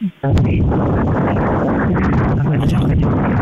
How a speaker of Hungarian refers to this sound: Hát nagyon keveset értünk belőled, mert rettenetes nagy a szél.